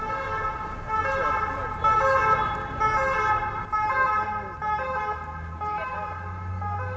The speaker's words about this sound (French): La rue est maintenant bruyante. Il y a plein de voitures. Il y a aussi des scooters. J'entends une ambulance.